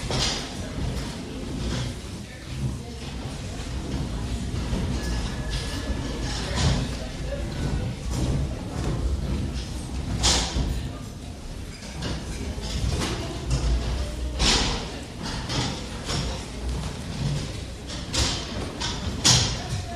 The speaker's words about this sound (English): So, maybe stack your chair. Tidy up your stuff and stack your chair.